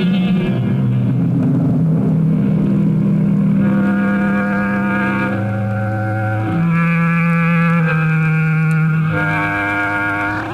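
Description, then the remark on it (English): Racing car engines roar loudly and continuously during a car race at a track, their pitch shifting up and down in long sweeps as the cars accelerate and pass by. No voices are heard. “Without a doubt, one of the most hazardous and thrilling sports going, dating back 100 years to when automobiles first spun their wheels.”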